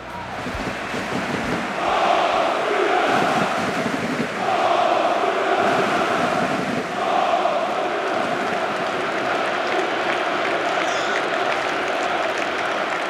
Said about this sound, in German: Die Jubelrufe von unten, das Flutlicht von oben und mittendrin Thomas Müller, wie so oft.